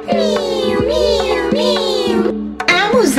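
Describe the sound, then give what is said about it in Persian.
During the Persian children's chant game 'Amu Zanjir Baf', a person imitates a cat, giving about four drawn-out, wavering meows in a row, loud, the last one rising and falling into a short yowl. “با صدای چی؟ با صدای گربه.”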